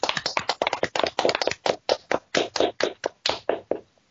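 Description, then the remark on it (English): A short burst of audience applause honoring Steve Ditko: crisp, distinct hand claps in a quick, steady rhythm that thins out and slows toward the end, with no voices over it. “All right, so, guys, I think a round of applause for everything that Steve Ditko did.”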